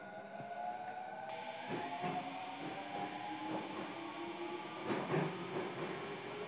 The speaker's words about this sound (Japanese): 本日も千日前線のご利用ありがとうございます。お客様にお知らせいたします。この列車は今里行きです。南辰巳までは参りません。今里で止まります。ご注意ください。